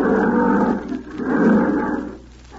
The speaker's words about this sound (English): You just like a good movie, that's all. And here it is. The lion roars.